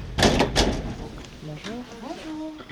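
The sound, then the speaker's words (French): A door is unlatched for visitors and pushed open with a couple of rattling clunks, followed by faint, indistinct voices in the background. “Ah oui, il vous attend, je vous ouvre la porte, c'est au premier étage.”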